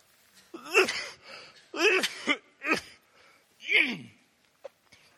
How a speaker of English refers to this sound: Would you turn me off the PA for a minute? I just want to cough and get my throat clear.